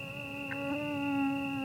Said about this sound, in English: You'd be hard-pressed to find someone who welcomes the sound of a mosquito drawing near, but, annoyance aside, they're the vectors of all manner of maladies that plague human populations worldwide.